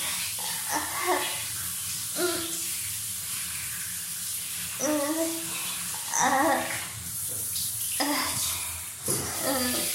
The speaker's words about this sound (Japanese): すごいあったかい。あったかいですね、シャワーだから。